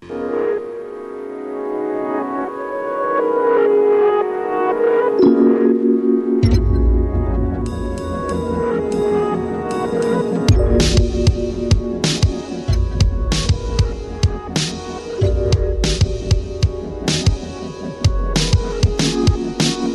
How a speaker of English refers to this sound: primer de tot, la nova combinació, com a la majoria de treballs, arriscant música experimental, bàsicament electrònica, i hip-hop.